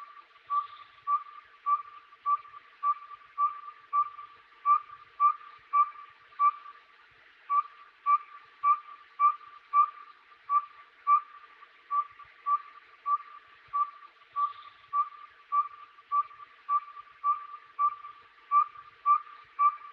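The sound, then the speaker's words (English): A saw-whet owl gives a long, steady series of high, whistled toots, about two per second, repeating evenly and clearly with nothing else audible. “the Saweet Owl.”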